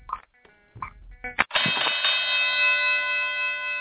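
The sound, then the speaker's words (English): A few short tonal blips lead into a bell on the show After Further Review that rings out with a bright, sustained metallic tone, its shimmering overtones holding steady without talk over it. “You know what that means. That's the bell.”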